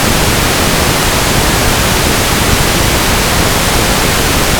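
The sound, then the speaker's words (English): A loud, steady burst of pink noise played as a test signal at 0 dBFS, filling every frequency at once: a constant hiss with a deeper rumble underneath, unchanging for several seconds with no voices. “Here's pink noise, which includes all frequencies at the same time, at 0 dBFS.”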